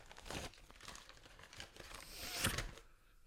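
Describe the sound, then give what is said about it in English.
Continuous crinkling and rustling of a paper sheet being handled and turned over, with irregular crackles and a sharper crunch near the end, heard on its own without any talking. “Oh, I don't know why you're turning it over. There's nothing written.”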